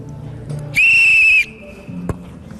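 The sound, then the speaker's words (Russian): A single loud, shrill referee's whistle blast starts a football match at an international tournament in Moscow among players from about 20 countries, held alongside the World Cup. It lasts under a second over a low, steady background murmur. “И порой со стартовым свистком. Не только стартует матч, но и новые дружеские отношения.”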